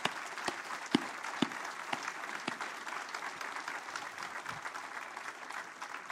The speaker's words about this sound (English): We're going to ask you to stand at this time. And I just want us to say thank you through a round of applause.